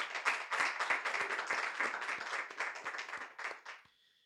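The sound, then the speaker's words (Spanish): An audience claps hands together for the Lord in a steady, quick rhythm, the claps loud and crowded as they blend into one another, then the clapping stops abruptly and a faint tone lingers. “Vamos a dar palmas al Señor, hermano.”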